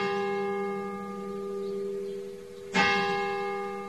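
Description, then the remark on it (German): The bell of a nearly 1000-year-old church tower in the small village of Vrestedt, Lower Saxony, Germany, rings nonstop in the middle of the night after lightning struck the tower in a thunderstorm: a long, sustained hum of overtones, then a fresh strike near the end renews the clang. Steady and resonant, no voices. “Die Glocke des Kirchturms hörte nämlich mitten in der Nacht nicht mehr auf zu läuten.”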